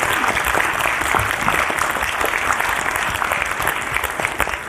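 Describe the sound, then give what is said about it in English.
A live audience applauds steadily to thank a show's team, a dense patter of many hands clapping at once, loud and even throughout with no voices standing out. “So if you wouldn't mind giving them a round of applause, I'd appreciate it.”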